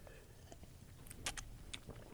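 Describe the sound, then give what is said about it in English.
Quiet sipping of a sweet, licorice-flavored liqueur, taken plain as a first sip: a couple of short, wet slurping bursts with soft mouth noises in between, over a low hum and no talking. “Yeah, because you're going to have one initial sip just of it regular.”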